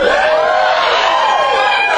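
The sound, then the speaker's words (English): A dense, sustained roar of many voices screaming and cheering at once, loud and continuous throughout, with overlapping high-pitched yells and whoops from an audience at a Cheap Wine and Poetry event. “You can clap, you can scream, you can shout. You can get into it. Can I hear some getting into it?”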